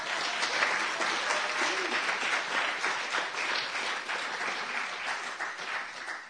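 Steady applause from an audience, a dense patter of many hands clapping at an even, fairly loud level for several seconds with no voices.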